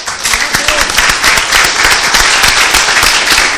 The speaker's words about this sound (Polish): Standing ovation. Wielkie brawa.